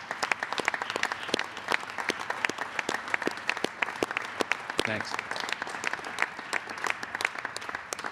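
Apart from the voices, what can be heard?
audience applause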